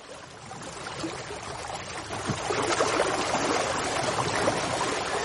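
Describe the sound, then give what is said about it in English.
Sea water laps and sloshes steadily against a quay in an onshore wind, a continuous wash with small splashes and gurgles, growing slightly fuller partway through. No voices. “Same sea. Same ebb and flow.”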